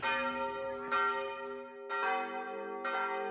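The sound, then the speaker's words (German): The heavy tower bells of the Bargello, Florence's city palace, peal with rich, sustained ringing tones, ringing for the first time since 1940; three strikes roughly a second apart, each new stroke landing over the lingering hum of the last; no voices. “Bartali selbst hat seinen persönlichen »Der Krieg ist vorbei«-Moment, als die Glocken des Bargello, des Florenzer Stadtpalasts, läuten.”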